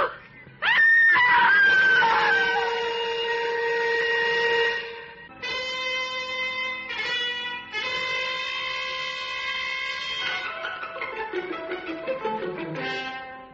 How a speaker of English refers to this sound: A woman screamed and cried for help on the Wayfield Common, but there was no one within a mile to hear her screams.